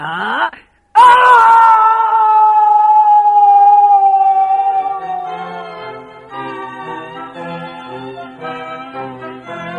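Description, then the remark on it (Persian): A sudden thud is followed by a long, loud, drawn-out howling wail that slowly sinks in pitch and wavers for several seconds, apparently a human voice imitating a wolf's howl as the wolf falls into a pit. “بله بچه ها، حتما فهمیدید چی شد. خود گرگ افتاد توی چاله”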